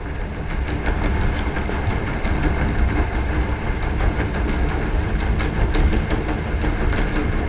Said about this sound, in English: Shipping is one major contributor, and I think we've actually got a clip of what a commercial vessel sounds like from underwater.